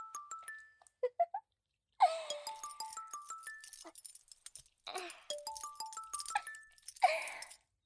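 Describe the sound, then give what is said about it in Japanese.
A phone ringtone of an incoming call from a woman plays a bright, stepping electronic melody that repeats in phrases, mixed with bursts of hissy, clattering noise; no one speaks. “見てください先輩、あの女から着信ですよ。”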